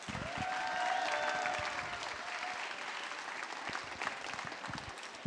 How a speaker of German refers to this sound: Dann haben wir Klaus-Peter Damitz. Ihr kennt ihn unter anderem als Jerry aus Rick and Morty. Ihr kennt ihn als Flanders von den Sims. Ihr kennt ihn als Tyrion aus Game of Thrones. Ganz großen Applaus bitte.